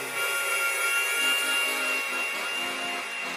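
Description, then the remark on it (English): A cat jumps onto a turntable and the record scrapes harshly under the needle, a continuous gritty grinding with high whining overtones that lasts about three seconds at a steady, fairly loud level, with no voices. “The cat jumped on the platine. And I think he's a real disc.”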